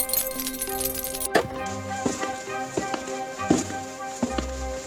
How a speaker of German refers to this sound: So, Feierabend. Das war auch ein langer Tag. Nur noch das Licht ausmachen und die Tür abschließen.